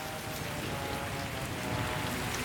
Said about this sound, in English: started a rainstorm! I didn't bring my rain boots!